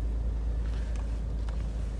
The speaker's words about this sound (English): And yes, we're back in the car.